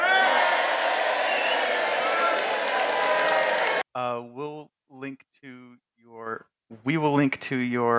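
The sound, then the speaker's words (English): A burst of dense applause mixed with crowd cheering fills the first few seconds, loud and steady, then cuts off abruptly as a voice starts talking. “And yay, applause. Hang on. I got applause too.”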